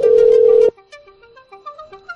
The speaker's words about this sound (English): I'm gonna call your cell phone from Skype. Answer it, please.